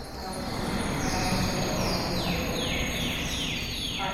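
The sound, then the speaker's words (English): Bird calls on the fourth floor of a museum, in an art exhibition: a series of high, descending whistled notes repeating over a steady, noisy background hum, moderately loud, with no clear talking. “Sometimes it feels to me like it's like somebody's tickling my brain, you know, when I'm hearing birdsong, especially when it's live.”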